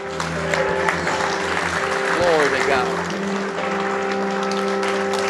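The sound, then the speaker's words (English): A church audience claps hands in sustained praise to God during a service, a dense, steady wash of applause with shouts and voices mixed in, while a held musical tone hums underneath. “If you're excited about Jesus tonight, today, I dare you to give God, oil up your shield with a hand clap of praise right now.”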